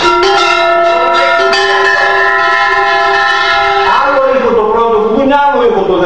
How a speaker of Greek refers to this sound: Αυτό όμως τα δύο τα κουδούνια στο πόδι το αριστερό χτυπάνε ταυτόχρονος μαζί. Και μετά χτυπάει αυτό και αυτό.